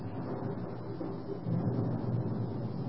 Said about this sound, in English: and then I was just sitting here, and the thunder and lightning started up. It's really kind of rocking and rolling out there